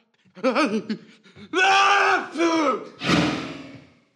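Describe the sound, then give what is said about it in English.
A loud, drawn-out theatrical sneeze: wavering, sung-out voiced gasps build up over a few seconds, then burst into a harsh, noisy 'choo' that trails off. “How dare you extinguish my raging hellfire with your barbarian sneeze!”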